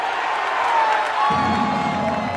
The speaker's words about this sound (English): The acceleration of a Grand Prix car, and the crowd at the Detroit Tigers' opening day of the baseball season.